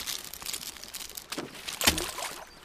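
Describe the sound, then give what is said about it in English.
A bag of crisps is crumpled, giving soft, irregular crinkling and crackling with a couple of sharper bursts near the end. The sound is fairly quiet, with no voices. “I love crisps!”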